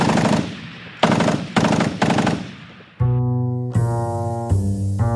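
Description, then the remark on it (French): Loud bursts of submachine gun fire as the militiaman Charles Debel shoots at Jean Zay, several rapid rattling volleys in quick succession, giving way to sustained, droning musical tones with a few sharp accents. “Pour toute réponse, le milicien Charles Debel braque sa mitraillette vers lui et tire.”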